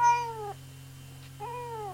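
A new kitten meows twice, two short falling cries separated by a brief pause, clear over a steady low hum in the background.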